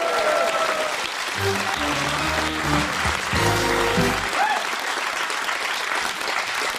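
An audience claps steadily for about seven seconds, a dense, even wash of applause, while a short burst of brassy music rises and fades partway through.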